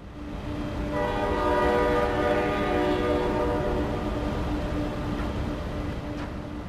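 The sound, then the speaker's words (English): A long, sustained train whistle blares over a dense, steady industrial rumble from a Bay Area oil refinery in California, swelling in the first second and holding for several seconds before fading into the continuous low roar. “Every half hour or so, a train whistle pierces the rumble of this Bay Area refinery.”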